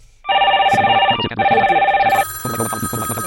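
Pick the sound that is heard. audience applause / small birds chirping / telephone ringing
telephone ringing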